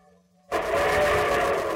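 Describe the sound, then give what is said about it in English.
After a brief near-silent moment, the loud, steady rumble of a train approaching on a railroad bursts in and holds, a dense roaring wash of noise with a faint tonal hum running through it. “And here comes the star-studded show train.”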